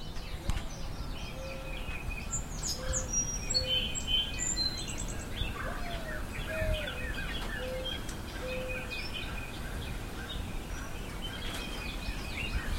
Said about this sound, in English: Well, I'm back on the porch this morning. It's about 8 o'clock, and we'll see what we can hear. And far off in the distance, there is a mourning dove.